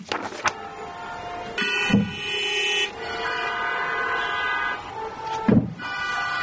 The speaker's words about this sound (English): Please honk your horns for the great daughters of Yishrael Hawkins.